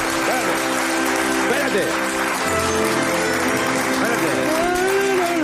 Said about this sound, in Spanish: El otro aplauso, me cago en la